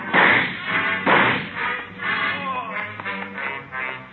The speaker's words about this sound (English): He's down. All right, come on. All right, get his guns. Yeah. You got him in the leg, Joe. Hit his head when he fell.